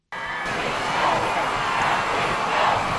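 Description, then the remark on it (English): A crowd of thousands in Mexico City cheers and shouts continuously to welcome Pope Francis as he steps out of his plane on a Friday night, a dense roar of many voices with rising swells, while a low engine hum rumbles underneath. “Thousands cheered and gave a warm welcome to Pope Francis when he stepped out of his plane in Mexico City Friday night.”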